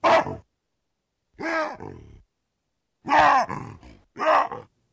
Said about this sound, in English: Our guests on today's show want to know what baboons have to say to each other and what's going on in their minds as they scream, grunt, and wahoo. They've recorded vocalizations of wild baboons and analyzed what they communicate.